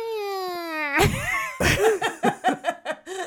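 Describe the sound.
A human voice mimics a cat saying "I love you", starting with a long, gliding, harmonic meow that slides downward, then breaking into a rapid series of short, yowling, wavering cat-like syllables, loud and alone.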